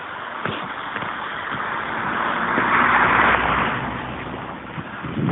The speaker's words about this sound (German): Fahrt jetzt ein Auto in die Forststraße, das muss es natürlich auch sein.